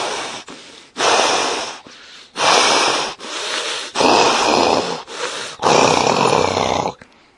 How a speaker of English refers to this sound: In great anger, Kaliya raised his hoods while remaining stationary, breathing heavily.